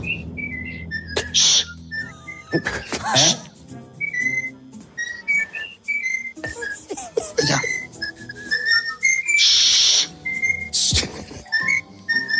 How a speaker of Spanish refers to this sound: que estaba en su casa con el loro al lado. Esto es buenísimo. Y el loro empezó a canturrear algo.